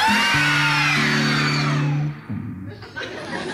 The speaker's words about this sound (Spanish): Me encontré con una casa abandonada. Se oían gritos.